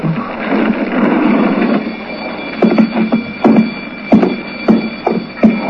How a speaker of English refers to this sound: So what's that bell ringing like that? Burglar alarm.